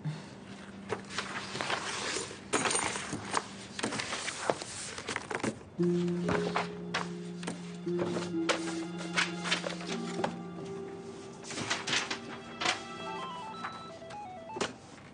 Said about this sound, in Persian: این سربرگای جدیده. ببین رنگش رو دوست داری؟ آره، خیلی خوبه. رنگش فقط توی چاپ یه ذره کم رنگ شده، ولی به نظر من همینجوری خوبه. حالا یه خودکار بردارش بنویس ببین جنس کاغذ دوست داری.